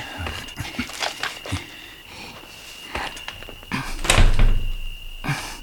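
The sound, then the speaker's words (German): Someone tries the locked door of a derelict, burnt-out house: a series of rattling clunks and thumps as the handle is jiggled and the door pushed, with a heavier jolt near the end. “Die Tür ist verschlossen.”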